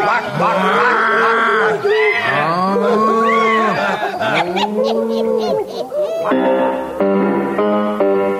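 A cow moos loudly, a series of long, rising-and-falling lows one after another, ending in a steadier, sustained tone. No one speaks.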